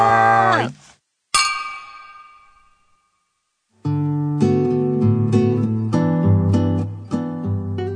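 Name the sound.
glasses clinking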